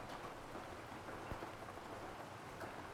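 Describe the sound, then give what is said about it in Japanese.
Steady rain pours down continuously, a dense hiss of drops with occasional louder splashes, uniform throughout, with no voices. It has been raining since the morning. “そう、朝からずっと降ってるよね。”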